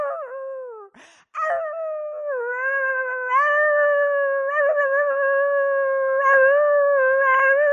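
A puppy cries in a long, sustained high-pitched howl that wavers and rises, broken by a brief pause near the start, loud and close with no one talking.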